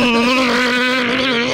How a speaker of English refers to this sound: Starting off. Chainsaw starting up.